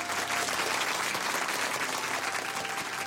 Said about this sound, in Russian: В этот момент на сцену поднялся будущий муж дамы с собачкой. Он вынес большой букет белых роз и подарил его наставнице. Зал взорвался аплодисментами.